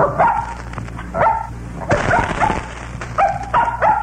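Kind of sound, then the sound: animal, dog barking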